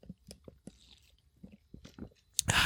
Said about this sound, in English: So you know what I need? I need a sip of an iced coffee.